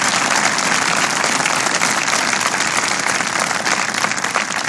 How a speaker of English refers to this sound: First of all, please give Mark another round of applause for his hospitality.